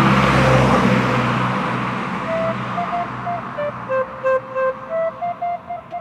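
A car engine rumbles and fades, then a horn honks in a rapid series of short, evenly spaced beeps that ring out clearly over the fading traffic noise.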